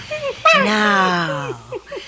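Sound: dog whimpering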